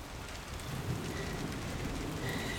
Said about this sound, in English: Damn it, I thought we were gonna beat the rain. Oh gosh, it's really coming down.